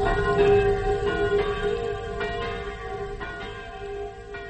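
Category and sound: signal or alarm, village church bells ringing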